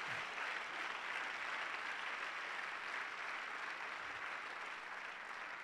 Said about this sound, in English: Go ahead and clap your hands. It's okay.